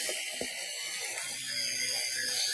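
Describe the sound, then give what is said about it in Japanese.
An electric toothbrush, used by a daughter brushing her teeth, whirs steadily for the whole stretch, a thin, high-pitched mechanical buzz with a faint rattling edge and no voices over it. “今、娘がですね、電動歯ブラシを持って隣にやってきました。”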